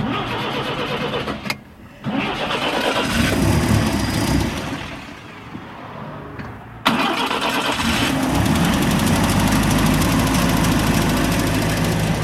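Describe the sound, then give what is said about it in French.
A car engine, with a battery used to prime the fuel, cranks in uneven bursts, then catches with a sudden loud surge and settles into a steady, rumbling idle that carries on to the end. No voices are heard. “Une batterie pour faire un appel d'essence, ça devrait partir.”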